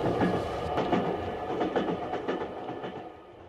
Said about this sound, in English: For some reason, the train was moving quite slowly, Mr. Holmes.